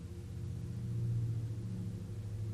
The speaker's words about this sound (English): Even though we know there are sounds outside, wind is blowing, trucks are going by, all kind of things happening.